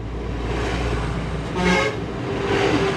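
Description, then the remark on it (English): Steady rumble of a stream of brightly colored heavy buses grinding up and around a highway on steep terraces above the Min River, with a short horn toot rising over the engine noise midway through; no one speaks. “A steady stream of brightly colored buses lumbers up and around the steep terraces above the Min River.”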